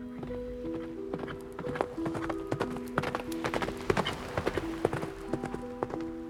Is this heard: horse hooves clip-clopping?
yes